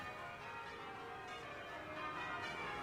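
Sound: church bells ringing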